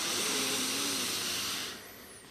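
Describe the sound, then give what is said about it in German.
A long, steady breathy rush of air, a deep shared inhale through the nose into the belly, lasting about a second and a half before easing off into quiet. “Wir nehmen nochmal einen tiefen gemeinsamen Atemzug durch die Nase in den Bauch.”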